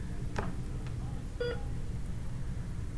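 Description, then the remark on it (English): A short electronic beep from computers sounds once midway, preceded by a couple of sharp clicks, all over a steady low rumbling background with no one speaking. “That incessant beep, beep, beep, beep, beep, beep, beep, beep, beep, beep, beep, beep, beep, beep, beep, beep. It drives me insane.”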